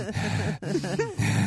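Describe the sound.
A voice imitates heavy, breathy panting as if eating chocolate: a few loud, voiced huffs and gasps in quick succession, broken by a brief pause in the middle.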